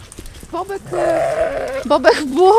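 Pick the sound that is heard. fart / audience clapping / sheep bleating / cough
sheep bleating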